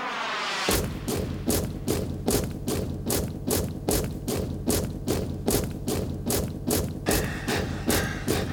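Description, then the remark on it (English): A company of soldiers marches forward on command, boots stomping in unison, a loud, steady stomp about twice per second that starts abruptly and keeps an even rhythm over a low, droning undertone. No one speaks. “company attention forward march.”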